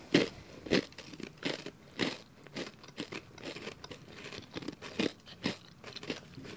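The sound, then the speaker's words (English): Crisp crunching of taco-flavored cheddar crackers being chewed, a steady run of sharp crackling bites repeating roughly every half second, loud with no talking. “A little ASMR for you guys.”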